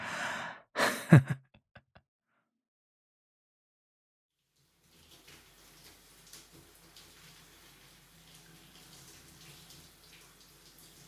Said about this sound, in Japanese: お待たせ。僕もシャワーを浴びてきたよ。